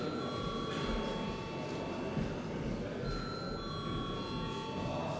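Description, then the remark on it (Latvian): An electric bell in a parliament chamber rings continuously and steadily for several seconds before a vote, a bright sustained metallic clatter over a low murmur of room noise. “Paldies, lūdzu zvanu.”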